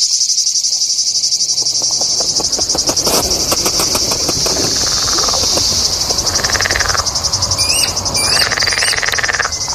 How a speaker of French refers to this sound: Le grillon. Grillon.